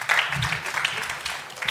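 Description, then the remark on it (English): Light, scattered applause from a small group greeting a contestant's victory, a thin patter of claps that stays fairly even and unenthusiastic for a couple of seconds, with faint voices mixed in. “The tepid applause that greets”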